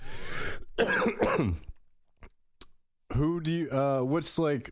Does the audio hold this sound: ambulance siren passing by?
no